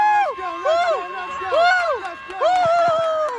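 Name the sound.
crowd chanting and cheering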